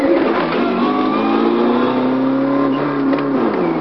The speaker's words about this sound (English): So here I'm driving all, launching and driving all electrically. The engine is not being used, but it's still.